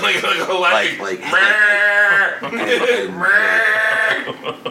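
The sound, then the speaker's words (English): A person imitates a goat with two long, wavering bleats, each quavering for about a second, delivered loudly with no other talking. “No, just a goat.”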